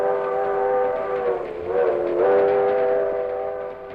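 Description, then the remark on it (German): A departing train bound for Woodstock sounds a long, steady horn whose pitch sags and swells midway, over a continuous low rumble of rolling railcars, fairly loud with no voices. “Als der Zug losfuhr und der Schaffner kam, um die Fahrkarten zu kontrollieren, nahm er meine Fahrkarte, gab sie mir zurück und sagte mir, dass er sie nicht annehmen könne.”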